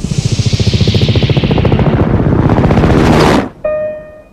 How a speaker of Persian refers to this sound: اول نقطه سیاه بود، وقتی اومد بالا سرمون دیدیم هلیکوپتره.